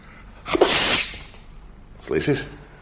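A man sneezes loudly in a ship's hold, one sharp, hissing burst, then a shorter, quieter vocal burst about a second later against a faint background.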